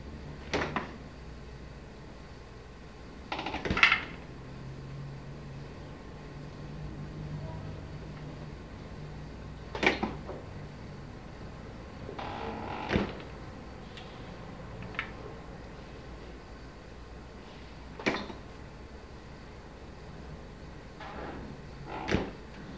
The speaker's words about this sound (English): Wild track number 1058, interior apartment, refrigerator door opening and closing. Action.